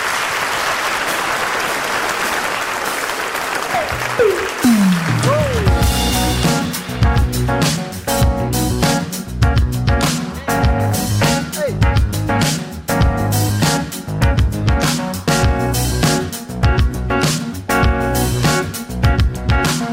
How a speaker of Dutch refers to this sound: Geef ze nog een applaus. Bessel Kok en Bart de Wever.